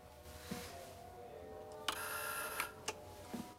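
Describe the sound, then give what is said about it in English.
A man presses the doorbell of an apartment on an upper floor of an apartment block: a single harsh, buzzing burst lasting under a second, bracketed by sharp clicks of the button, with a few more clicks afterward over a faint steady hum. “Outside Linda's door, he tries to spy through a peephole into the apartment, but gives up and presses the bell.”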